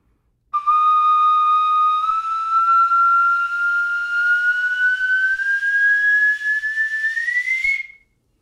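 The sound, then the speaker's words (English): An ancient flute, played by sliding the fingers to adjust the pitch, sounds one loud, unbroken whistling note for about seven seconds, its pitch gliding slowly upward before a quick final rise and abrupt stop, with no voices. “It's not clear what people were doing with these flutes.”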